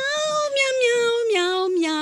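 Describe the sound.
A person sings a melody entirely in cat-like meows, voice imitating a cat with a steady, slowly falling pitch, clear, continuous for the whole stretch.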